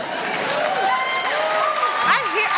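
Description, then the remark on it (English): A steady wash of audience applause for a joke about sick days for dogs, with mingled voices and a few whoops rising over the clapping, sustained and fairly loud throughout the short stretch. “Yeah, all right, we're clapping that, because that's the most American nonsense I've ever heard.”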